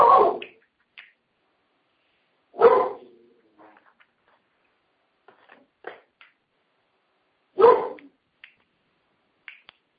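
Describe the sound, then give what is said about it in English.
A dog named Bo barks three times, loud, with pauses of a couple of seconds between barks, letting people know the neighbors are here; faint clicks and shuffling noises fill the quiet gaps. “He's letting us know that the neighbors are here, and that's why he's talking.”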